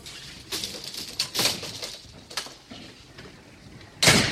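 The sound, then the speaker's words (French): The door of apartment block 10 in Les Pétrelles opens and shuts as a person leaves the building, giving a series of hissing, clattering bursts and thuds, ending in one louder bang against faint background noise. “Je sors de mon bloc 10.”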